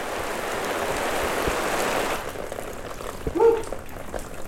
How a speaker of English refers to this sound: That water's wet. That was a lot more rain that time.